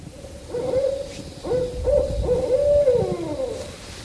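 Recorded owl hoots play from a guide's digital owl caller, used on snow-packed trails in hopes of an owl's response: a series of steady, mid-pitched hoots of varying length, some run together, fairly loud over a low rumbling background, with no talking.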